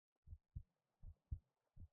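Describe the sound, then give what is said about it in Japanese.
A slime's heartbeat thumps in a steady lub-dub rhythm, low and muffled, with two and a half beats heard in quick pairs and nothing else around it. “そうです、私の心臓の音。”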